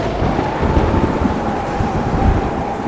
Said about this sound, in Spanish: De repente, nubes de tormenta cubrieron las montañas, relámpagos iluminaron el cielo, truenos retumbaron y la lluvia cayó torrencialmente.